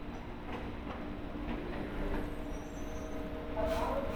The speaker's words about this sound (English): The train is arriving. Please stand clear of the doors and allow passengers to exit.